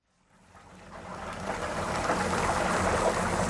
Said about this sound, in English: Chicken coated in a batter of secret spices sizzles in oil. At the Mr. Big Stuff eatery, even the squares of macaroni and cheese, euphemistically known as mac and cheese, are deep fried.